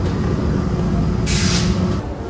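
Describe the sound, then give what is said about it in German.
A subway train rumbles loudly into a station, a constant low roar with a sharp hiss of air brakes bursting out midway, then easing off; no one speaks. “Es wird jetzt gleich mal laut, weil die U-Bahn einfährt.”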